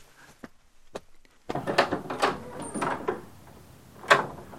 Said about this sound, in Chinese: 来来来来来，没事，来，我去开门。